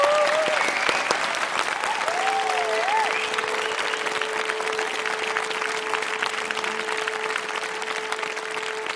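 audience applause

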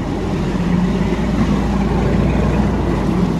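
boat engine running

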